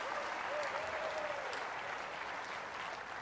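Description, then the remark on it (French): Sustained audience applause, a dense steady wash of many hands clapping at an even level throughout, with a faint tonal whistle or voice briefly rising above it early on. “Oh, vous devriez applaudir plus fort.”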